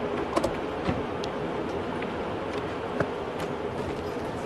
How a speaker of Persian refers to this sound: دو تا ماشین میان نزدیک مزار مایده نگه میدارن.